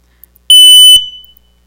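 A single loud, shrill smoke alarm beep, about half a second long, sounding alone and fading with a brief ring afterward.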